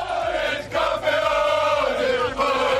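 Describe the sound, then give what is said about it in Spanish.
Paris Saint-Germain players chant together in Spanish in their locker room, celebrating winning the French Cup, their voices loud, sustained and tuneful, with brief rhythmic breaks between repeated shouts of "campeones". “En un perfecto castellano, en el vestuario del PSG, se habla y se canta al grito de campeones.”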